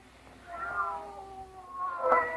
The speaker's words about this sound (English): They're not ordinary cats. Listen to them.